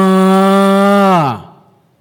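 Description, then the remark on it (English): A person's voice imitates a calf intensifying its cry of "Ma!" for its mother cow: one loud, drawn-out call held steady for over a second, then sliding down in pitch as it trails off. Nothing else is heard. “But if the mother cow will not respond, then he will intensify his cry. Ma!”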